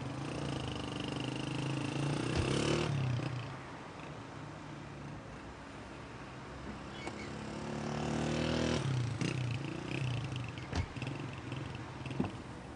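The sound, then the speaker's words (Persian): A motorcycle taxi engine runs steadily with a low, throbbing rumble, its pitch rising in two distinct revs before settling back to idle. No voices are heard. “همچی به موتور میگه دربست، انگار یارو میخواد تورا دو نفر دیگه هم سوار کنه.”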